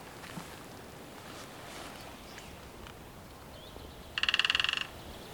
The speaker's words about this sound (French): Il y a un oiseau qui tambourine. Pas fort, mais pas loin, je pense. Donc ça, c'est une marque de territoire. C'est comme un champ. Il ne frappe pas pour manger quand il fait un trrr. Il a une branche dont il connaît la sonorité.